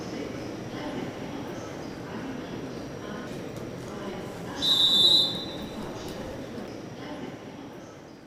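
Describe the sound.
A single short, shrill whistle blast cuts through the steady rumble of a train pulling away from platform 9 of a station, with indistinct voices murmuring in the background.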